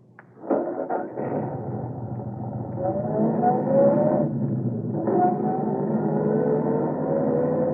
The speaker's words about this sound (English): Straight down the road. And I'll be following along in my car.